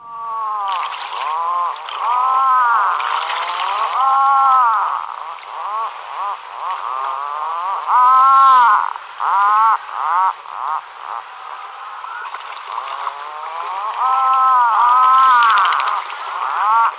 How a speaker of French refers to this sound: Il n'a pas l'air content, hein. Non, mais c'est le bruit que fait le macareux moine. Mmh. Voilà, ça fait ça.